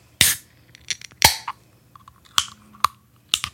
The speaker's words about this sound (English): I'll be quiet this time so people can actually hear the can open.